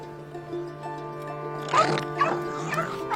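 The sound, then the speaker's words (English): Dogs, including a pet dog named Spot, bark and yip in a quick flurry of sharp bursts that start partway through, over a steady humming background. “I have a dog too, Spot.”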